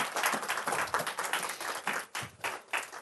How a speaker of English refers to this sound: Some applause.